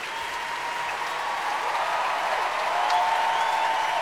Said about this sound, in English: Well, all the comedians and musicians lined up across the front of the stage, and Jules Buckley encouraging the concert orchestra to stand, and everybody's applauding everybody else.